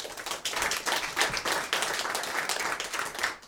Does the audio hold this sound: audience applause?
yes